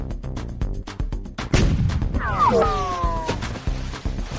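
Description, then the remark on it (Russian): A rapid series of sharp bangs leads into a heavy boom, followed by a wavering whistle as loud cannon fire continues around it. The cannon fire is aimed at a yacht at sea at the entrance to the Mediterranean, tearing a hole in its sail as water crashes up around it. “Что-то свистнуло, ухнуло. Я вижу в парусе дырка 0.5 метра. Кругом огонь, вода с грохотом вздымается в небо”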